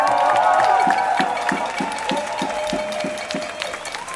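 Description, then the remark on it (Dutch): A crowd applauds and cheers for the speaker Tofik Dibi after his speech, the clapping dense and loud at first with raised voices, then thinning into a steadier patter of claps that carries on to the end. “Nogmaals een groot applaus voor Tofik Dibi, alsjeblieft.”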